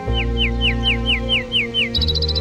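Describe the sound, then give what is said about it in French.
A common nightingale sings a rapid run of about eight clear, descending whistled notes, then abruptly shifts to a higher, quicker burst, heard over a steady low droning hum. “Ça, c'est un rossignol.”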